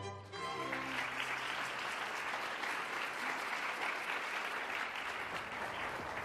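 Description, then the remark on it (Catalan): Loud, sustained applause from a large crowd standing on its feet for the young Amadeus Mozart's performance, a dense steady clatter of many hands clapping that starts almost at once and holds at full strength throughout, with no speech. “La gent es posava dempeus i aplaudia molt.”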